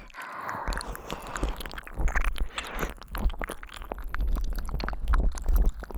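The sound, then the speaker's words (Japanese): Close, wet mouth noises: continuous smacking, squishing and clicking, intimate and fairly loud, with a soft low rumble underneath and no talking. “水音を聞くだけでペニス反応しちゃうんですね。”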